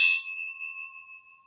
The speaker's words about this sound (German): Die Gläser klingen auf jeden Fall gut. Klingen gut.